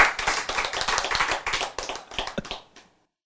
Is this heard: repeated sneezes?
no